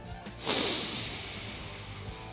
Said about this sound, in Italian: Paga il caffè, esce dal bar e prima di rimettersi in macchina respira a pieni polmoni.